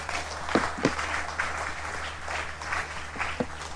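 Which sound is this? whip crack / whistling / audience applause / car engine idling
audience applause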